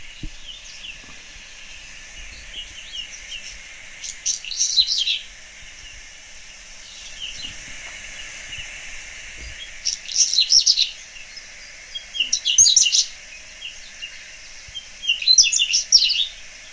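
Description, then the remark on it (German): A whinchat sings in short, scratchy phrases repeated every few seconds, crackly high notes over a faint steady background hiss, with no voices. “Und jetzt lasse ich mal das Braunkehlchen singen.”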